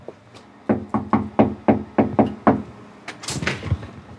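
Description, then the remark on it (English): A quick, steady series of about eight firm knocks on the front door of a ranch house in a suburban subdivision in Las Vegas, fairly loud, followed by a brief rustling clatter as the door seems to open. “opens the door and invites us in.”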